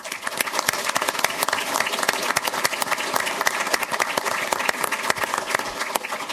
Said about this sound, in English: I wish there could be a monetary bonus, but you'll just have to take the round of applause.